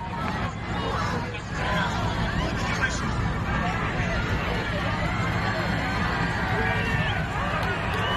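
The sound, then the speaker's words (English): A crowd at a Donald Trump event cheers and shouts continuously as he stands up, a dense, steady roar of many voices that stays loud for the whole stretch without pausing. “And so then all of a sudden he stands up, the crowd starts cheering, as you can hear there.”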